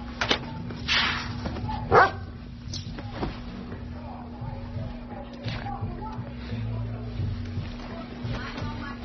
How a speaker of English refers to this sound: Somebody lose a dog?